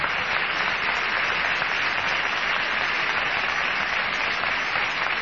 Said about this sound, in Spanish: Henos aquí en el Teatro Coliseo Podestá de La Plata. Muy amables, gracias. Vamos a saludar directamente sobre los ecos de esta ovación al querido Patricio Barton.